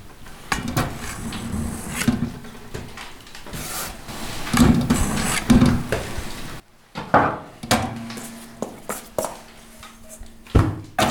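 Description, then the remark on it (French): A wood-fired bread oven crackles as it heats, with irregular sharp pops and snaps over a steady low hum, some bursts louder than others, and no one speaking. “Et bien maintenant, là, le four, ça y est, commence à bien chauffer, là, on l'entend crépiter, donc on va pouvoir commencer tranquillement à façonner, voilà, faire les pains, et puis après, direction le four pour la cuisson.”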